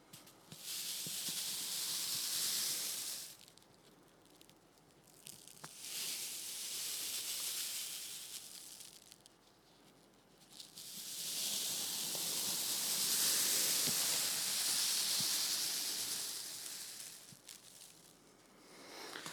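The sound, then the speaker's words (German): Wind rushes through tree leaves in long, hissing swells, building and easing several times with brief lulls between gusts. The rustling is steady and airy, with no voices. “Die Bäume rauschen.”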